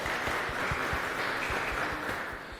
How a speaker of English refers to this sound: but I do think they deserve a round of applause for that, because it's the first time in history that open source developers can get directly involved in the standardization process. So I think they deserve a bit of an applause for that.